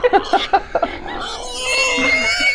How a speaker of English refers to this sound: There's more. Cause pigs to squeal in their ears.